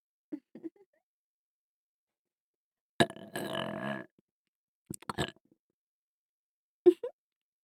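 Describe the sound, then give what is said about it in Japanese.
Someone drinking a fizzy carbonated drink: a few small sips and gulps, then a long throaty belch-like sound, followed by more scattered swallows, with no talking. “ただ炭酸飲んでるだけなのに。”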